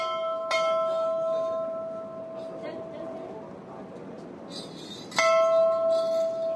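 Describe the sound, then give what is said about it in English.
An old temple bell, just beyond a temple at the spot where Bhagirath is said to have meditated, is struck twice, several seconds apart, each clang ringing out clearly with a long, humming tone that lingers and slowly fades over a soft background murmur. “Just beyond the temple, an old bell marks a spot where Bhagirath supposed to have meditated standing on one leg for 1,000 years.”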